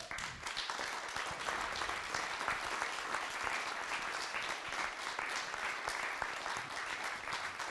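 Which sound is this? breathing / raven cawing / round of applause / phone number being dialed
round of applause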